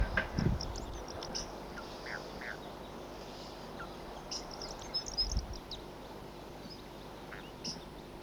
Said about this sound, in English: Here comes a flock, and there are the wild birds here. Wild.